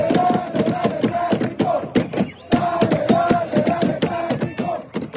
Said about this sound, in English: But here, no flags, no drums allowed, no belt buckles. Instead of drums, they improvised with cups and plastic chairs.